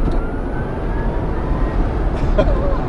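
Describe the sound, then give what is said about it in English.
A thin electric motor whine from a Tesla Roadster electric sports car climbs in pitch as it accelerates with the pedal floored, riding over a steady rumble of road and wind noise with no engine roar or exhaust blast. “No exhaust blast, just a gutsy whine when you floor it.”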